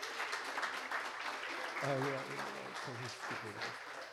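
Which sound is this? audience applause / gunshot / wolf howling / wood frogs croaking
audience applause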